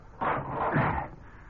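A door bolt on a door at the mission in San Linda slides shut in one grating, scraping stroke of just under a second, with a short clunk partway through as it catches. No voices.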